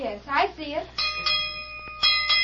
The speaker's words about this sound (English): you better go out and give that bell rope a couple of good yanks. That'll bring the boys in.